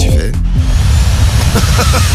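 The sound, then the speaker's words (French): A vacuum cleaner runs loudly and steadily at home, cleaning up morning crumbs, a dense whooshing roar over a low motor hum whose pitch wavers slightly, continuous for the whole moment. “en train de passer l'aspirateur.”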